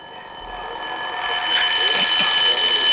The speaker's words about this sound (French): Sonnerie de réveil.